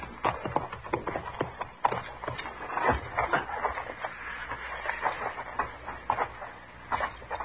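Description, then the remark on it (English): Horses' hooves clip-clop in a steady, uneven clatter of sharp knocks, as if several animals are walking, moderately loud and continuing throughout with no voices over them. “Well, we better leave our horses here.”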